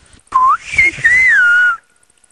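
A single loud, close whistled phrase in the Silbo Gomero whistled language, lasting about a second and a half, its pitch sliding up and down in speech-like glides, with no talking.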